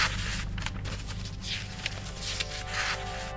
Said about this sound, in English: We're still today opening those boxes, pulling out the fragments, piecing them back together and deciphering them. This is what 2,000-year-old paper sounds like.